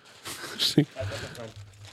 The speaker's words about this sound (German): Ich trete jetzt mit einer Tüte auf euch ran und ihr greift rein. Okay. Es sind drei Gegenstände und ich brauche dafür eine Erklärung.